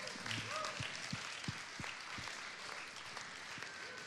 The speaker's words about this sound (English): Kannst du mal dem Herrn einen Applaus geben?